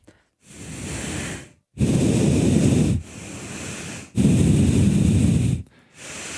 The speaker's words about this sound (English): Have you always exhaled out of your nose that loud? No. Well, now I'm just going to do it all the time.